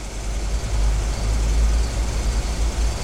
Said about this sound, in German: Und es dauerte gar nicht lange, da kam er mit dem Jaguar an. Kurz vor Mitternacht fuhr Bob mit dem Wagen bei dem Lebensmittelladen von Torres vor. Torres kam heraus und musterte den Luxuswagen.